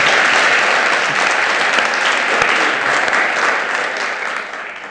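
Sustained applause from a sizable audience at a church service, given to thank the team, a dense steady wash of clapping that stays loud throughout and eases slightly near the end, with no voices standing out.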